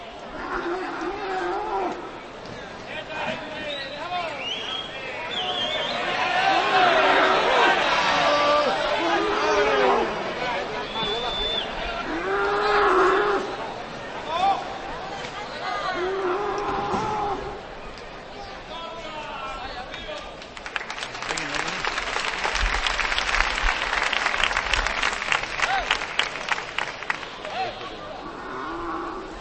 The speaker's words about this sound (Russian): Корида. Матадор наносит последнюю рану, шпагой убивает быка. На арену выводят звенящую колокольчиками упряжку лошадей, которые уносят побежденное животное.